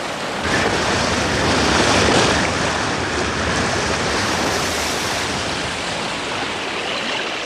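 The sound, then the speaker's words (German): A motorboat comes ashore amid steady, roaring surf, with waves washing loudly and continuously up the beach and a low rumble underneath; no one speaks. “Als das Motorboot den Strand erreichte, hielt Bob die Metallkassette bereits in der Hand.”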